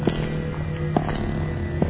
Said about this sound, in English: Strange footsteps.